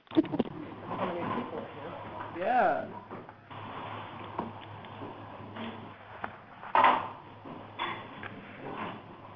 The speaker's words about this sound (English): For those online, we're doing some furniture rearranging. Can you bear with us?